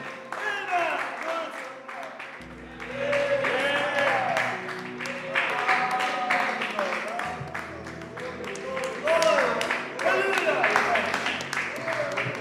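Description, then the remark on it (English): An audience gives a clap of praise to God, clapping steadily and loudly for about twelve seconds, a dense crackle of many hands, while voices call out over it and a low sustained tone hums underneath. “Let's give him a clap of praise.”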